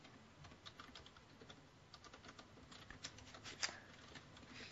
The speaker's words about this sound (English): This is not compelling radio, hearing you type.